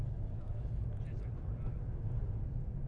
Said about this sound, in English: What is that noise? Do you hear that? Is that a jet? I hear it.